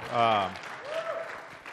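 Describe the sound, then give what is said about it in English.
A voice speaks briefly after a scripture reading, then a short burst of audience applause follows, a steady crackling wash of clapping lasting about a second, moderately loud, with a faint voice over it. “You can't applaud, because that was pretty”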